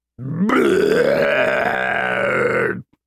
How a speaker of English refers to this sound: That moment came unexpectedly as soon as the beast shoved 10 more people into its mouth. It leaned back in satisfaction and then burped.